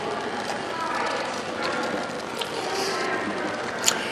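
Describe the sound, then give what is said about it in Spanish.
Someone takes a sip of water, with soft wet swallowing and slurping sounds followed by a small sharp clink near the end. “Perdón, que voy a tomar un poquito de agua.”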